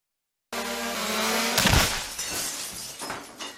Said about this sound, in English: My drone hit the window. What have I told you about flying that thing in the house?